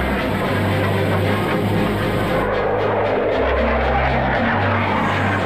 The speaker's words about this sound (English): Two F-16s are scrambled with orders to intercept Flight 93. But the fighter jets are unarmed.